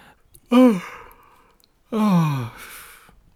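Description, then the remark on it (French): Two drawn-out, breathy yawns from a person, each voiced and sliding downward in pitch, the second longer than the first, with a short quiet pause between them. “Pas de ces moments qui ne veulent pas passer, vous savez, quand on bâille.”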